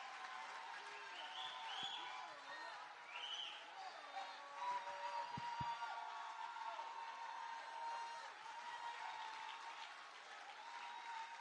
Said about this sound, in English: Put your hand together for Jesus. Put a hand. Keep on putting your hand together for Jesus. Put your hand together for Jesus.